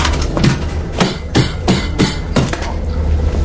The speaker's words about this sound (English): Ratchet breaks the videotape, then stomps on it. He tosses the damaged tape to another waiter.